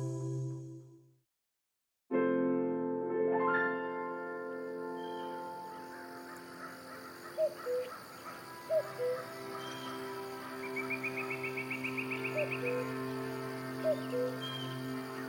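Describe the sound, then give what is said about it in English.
A cuckoo bird chatters in the woods, its short calls popping up every second or so over a steady, droning background, with a brief rising trill near the end. “Once there was a cuckoo bird chattering in the woods”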